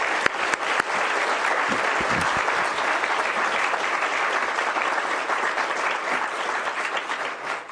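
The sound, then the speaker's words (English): Sustained audience applause for the candidates at a candidates' event, a dense, steady wash of many hands clapping at an even loudness for several seconds, with no voices standing out above it. “Well, let's give these gentlemen a round of applause.”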